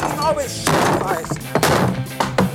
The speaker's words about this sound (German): Und deswegen mache ich jetzt hier diesen Tisch mal kaputt, ja?